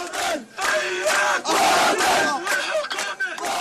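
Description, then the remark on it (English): A crowd of dozens of young protesters in Bethlehem chants loudly in unison on Sunday night, demanding that Palestinian Prime Minister Salam Fayyad and his government resign, their shouted voices rising in rhythmic bursts with brief gaps between repeated phrases. “Dozens of youth gathered in Bethlehem City Sunday night in one of the latest protests against government officials.”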